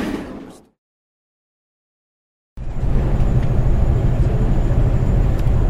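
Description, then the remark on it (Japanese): A brief burst of road noise cuts to silence, then a steady, heavy low rumble of engine and tires fills the cabin of a moving highway bus heading to Shinjuku as it passes the Kofu Showa Interchange, constant, with no voices. “現在バスの車内です。あまり迷惑にはなので大きな声は出せませんが、今ちょうど甲府昭和インターのところを通り過ぎようとしています。”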